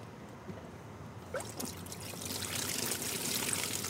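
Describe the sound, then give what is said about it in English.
Running water pours steadily from a hose on a wall at an apartment complex pool in North Austin into a cooler, starting softly and growing into a fuller, splashing gush with trickling, bubbling tones as it fills. No one speaks. “That's where she fills up her cooler.”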